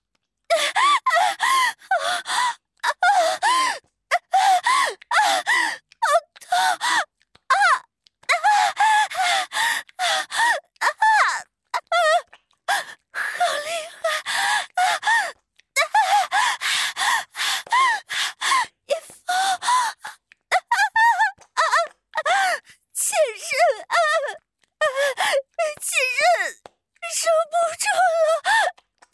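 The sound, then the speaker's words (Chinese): A woman moans and cries out repeatedly during sex in breathy, rhythmic bursts with short pauses between them, fairly loud, continuing steadily for the whole stretch with no spoken words. “不再等待，黄允快速抽插了起来，貂蝉也开始嚎叫。”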